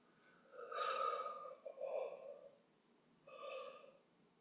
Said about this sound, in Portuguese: Fazendo uma respiração profunda, vamos acordar juntas. Inspira lá em cima, alonga.